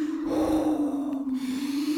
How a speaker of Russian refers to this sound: Довольно. А? Перестань. Ты меня согрел. Все, теперь не сопи.